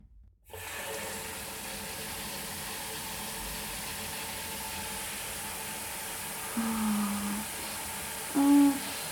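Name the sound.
shower water running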